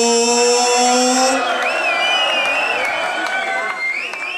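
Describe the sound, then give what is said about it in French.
A crowd cheers and claps loudly and steadily for a team's manager, with a long sustained shout at the start and shrill, wavering whistles rising over the roar. “Et une bonne équipe ne va jamais sans son manager, faites du bruit pour mon ac”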